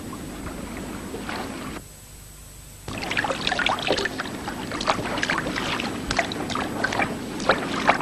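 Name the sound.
boat moving on water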